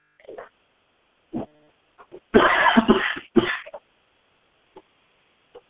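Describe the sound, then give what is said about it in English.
A harsh coughing fit caused by a lot of powder in the air of a room: one long raspy burst followed quickly by a shorter cough, with small throat noises and breaths scattered before and after in otherwise quiet surroundings. “This coughing has to do with, there's a lot of powder in my room right now.”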